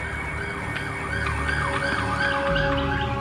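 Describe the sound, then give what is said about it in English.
An emergency vehicle siren wails in repeated rising and falling sweeps, fairly loud and steady, over a low rumble of engine and road noise, with no one speaking. “The siren stopped, and I just sunk again.”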